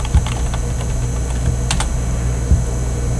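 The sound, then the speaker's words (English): Steady typing on a computer keyboard while logging in, a run of quick irregular key clicks over a low background hum, with a couple of louder keystrokes standing out. “I wonder if they can pick up you typing.”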